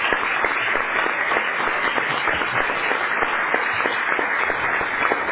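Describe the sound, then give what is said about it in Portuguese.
An audience bursts into steady applause for an 80-year-old veteran Portuguese radio announcer, many hands clapping together in a dense, continuous patter that stays loud and even throughout, with no voices rising above it. “Acho que merece um aplauso”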